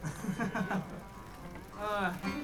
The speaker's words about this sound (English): Oh no, it's raining.